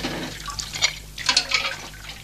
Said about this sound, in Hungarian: Hagyja csak. A magam tányérját magam mosom el.